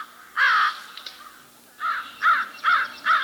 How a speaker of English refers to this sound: I have a pair of crows nesting in my backyard in Lakeside.